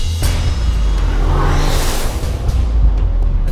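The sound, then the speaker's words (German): A racer's car roars at over 100 km/h through the Munich city centre with a loud, sustained engine rumble and a rising whoosh as it races past, the revving swelling and fading over a few seconds. “Jetzt aber geht es mit über 100 km/h durch die Innenstadt.”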